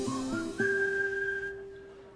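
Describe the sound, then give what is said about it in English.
Three short whistled notes in quick succession rise into one long, steady whistle that holds for over a second before fading off, heard clearly on its own with no talking. “Every time you hear that whistle, you know what's going on.”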